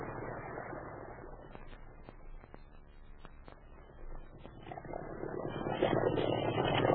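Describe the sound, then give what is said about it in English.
A boat engine runs at full throttle, a steady rumbling roar with a few sharp knocks, swelling louder and rougher toward the end. No one speaks. “Full throttle now.”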